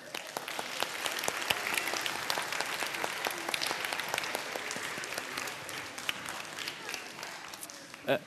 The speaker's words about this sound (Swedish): En stor applåd.